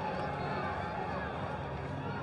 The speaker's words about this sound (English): We get any fans at tonight's game? Yes, we do. They are loud. What a great crowd tonight.